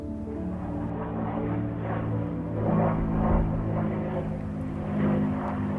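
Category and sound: vehicle, airplane passing overhead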